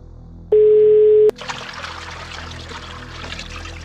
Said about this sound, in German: Sie geht davon aus, dass er sich im Waschraum des Flughafens befindet, weil sie lediglich ein Plätschern im Hintergrund hört.